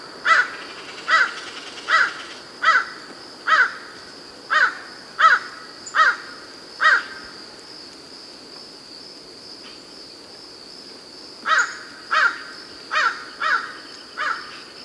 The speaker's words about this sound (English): Calls from Common Crow at 20.05 hours. Bursting the top of some oaks here at the very near the office of Hastings Reserve. A couple of birds calling back and forth. Bird was unseen and was probably a good 50 yards away, if not more.